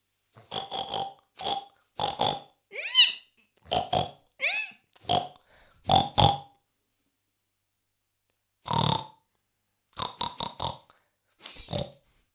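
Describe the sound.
A person mimics a pig with a long string of short, snorting oinks and grunts in uneven bursts, fairly loud, with a brief pause before a few final snorts, as an animal sound for children to guess.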